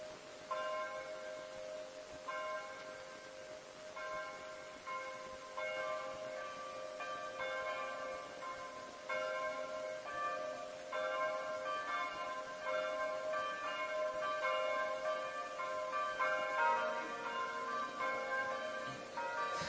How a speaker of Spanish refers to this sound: Y lo que suenan son las campanas de TC, una comunidad monástica ecuménica enclavada en la ciudad francesa del mismo nombre y que se ha convertido en un gran dinamizador de la espiritualidad